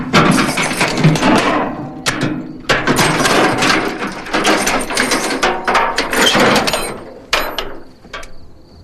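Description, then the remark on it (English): A pickup truck's tailgate is unhooked in a graveyard with a run of loud metallic clanks, rattles and ratcheting clicks, several sharp bursts spread over a few seconds with no talking. “Bud unhooks the tailgate of his truck and looks down at her.”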